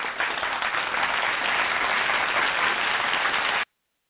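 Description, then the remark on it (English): A dense burst of crowd applause, steady and loud for about three and a half seconds, then cutting off abruptly into silence. No voices are heard. “I give a quick applause.”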